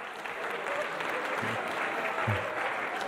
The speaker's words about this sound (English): Let's give her a clap. Let's give her a clap.